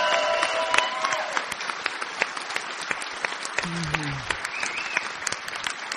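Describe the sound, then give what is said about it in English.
A crowd at an event applauds steadily for several seconds for the man who set up the event, dense overlapping claps, with a few faint voices and a brief whistle-like tone rising over the clapping. “He's done absolutely everything, so please give this guy specifically a round of applause.”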